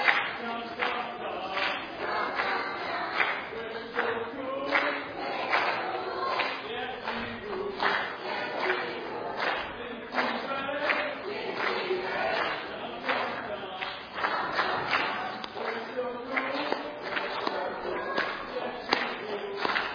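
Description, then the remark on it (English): The green team cheers loudly and continuously, a dense roar of overlapping shouts and yells punctuated by sharp claps, holding steady for the whole stretch. “Are you ready to take it loud? All right, go ahead, green team. Let's hear from you then.”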